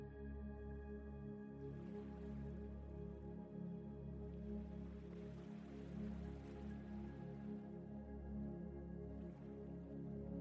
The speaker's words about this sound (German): Die Wellen kommen und gehen immer wieder in ihrem natürlichen Rhythmus.